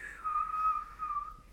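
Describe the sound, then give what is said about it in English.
A person whistles a steady, shrill tone in imitation of a boiling kettle: one long sustained note, a short break, then a second briefer one, clear with no talking. “do you think you could whistle like a kettle?”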